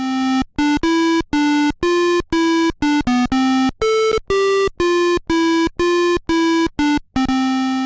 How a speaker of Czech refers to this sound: Pravda, u některých to moc perly nebyly, spíš takové pípání sonaru. To byl Bismarck, vzpomínáte?